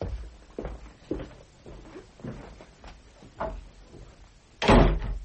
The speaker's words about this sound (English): The door banged. Are you sure that was all? Quite sure.